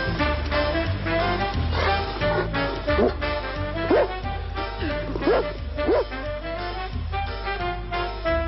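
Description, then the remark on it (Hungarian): A dog barks and yips several times in quick, clear bursts over a steady, rhythmic musical backing with a thumping bass line. “Egy kutya nyerte meg a kerületi bújócska versenyt.”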